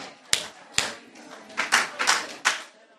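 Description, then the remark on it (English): A group of women at the first annual Wichita Women's Weekend claps in answer to a call to clap three times: two sharp separate claps, then a cluster of louder, slightly ragged claps, all crisp and bright with short pauses between. “Clap three times if you hear me.”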